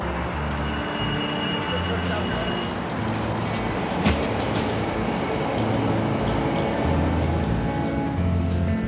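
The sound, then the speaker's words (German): A train rolls steadily along the rails at night with a dense, continuous rumble, a thin high squeal fading early and a single clack of the wheels partway through. “Und so vergeht die Nacht im Zug, fast wie im Flug.”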